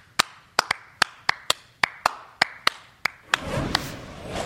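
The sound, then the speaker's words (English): A single person claps hands about a dozen times in an uneven rhythm, sharp crisp smacks, before a burst of rustling noise washes in at the end. “Clap it up.”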